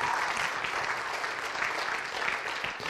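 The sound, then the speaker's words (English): A church audience claps steadily and densely for the full few seconds, cheering for God, a continuous wash of applause with no voices standing out above it. “So praise God. We can cheer for God on that one. Go for it.”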